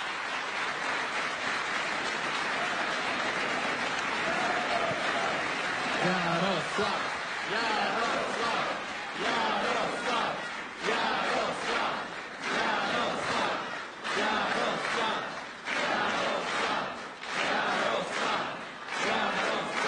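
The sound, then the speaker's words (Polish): A large crowd at a Law and Justice (PiS) election convention in Łódź before the European Parliament elections applauds and cheers Jarosław Kaczyński and Mateusz Morawiecki, a dense wash of clapping with shouts and chanting rising and falling throughout, no single voice standing out. “Proszę o gorące brawa.”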